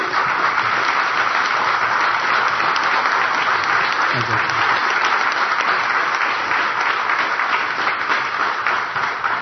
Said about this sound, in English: I'd like to hear a round of applause for the guys in the white shirts who made it all happen.